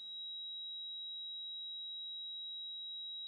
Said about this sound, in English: It can be described in many ways. I'd say one of the most common is people will say, I have a high-pitched ringing.